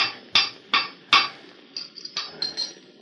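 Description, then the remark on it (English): Metallic clanks and taps from hand tools as a man works on a strange-looking contraption, a steam device with a big boiler and pipelines meant to turn a wheel, inside the mouth of his gold-claim tunnel in the West: three sharp, ringing strikes, then a quicker run of lighter knocks and scrapes, with no voices. “He stood inside the mouth of his tunnel, working with hand tools on a strange-looking contraption.”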